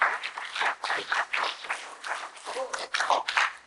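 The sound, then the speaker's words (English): A church audience claps together in praise of the Lord during a service, a steady, dense burst of applause that fills the room, with a few voices calling out over the clapping. “Give the Lord a hand clap and praise.”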